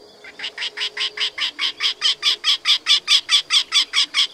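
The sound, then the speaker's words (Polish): A female wryneck calling by its nest hole gives a long, hoarse series of about twenty evenly spaced, squawking syllables in a steady rhythm, rising from soft to loud over a few seconds, with no voices. “Samica zwykle odzywa się tuż przy dziupli.”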